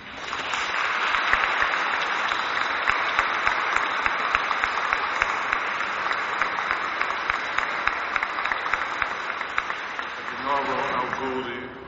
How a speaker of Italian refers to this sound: Prima di ascoltare il canto finale, possiamo fare un applauso a questi sposini.